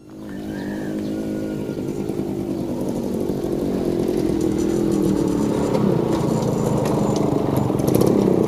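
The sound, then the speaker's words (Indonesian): A motorcycle engine runs steadily throughout, a loud droning hum that rises slightly as it gets underway, riding to a dairy cow farm, with no voices. “ayo Sefa, kita berangkat ke peternakan naik motor”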